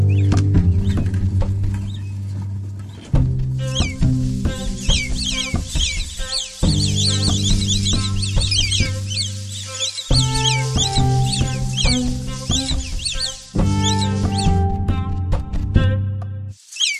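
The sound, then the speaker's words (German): Naked mole-rats in a burrow, one pulling another by the tail with its teeth along a tunnel, giving off busy, repeated high squeaks and chirps over a steady bed of low, sustained musical tones that change in blocks. No one speaks. “Ein Nacktmull zieht mit seinen Zähnen einen anderen Nacktmull am Schwanz eine Röhre entlang.”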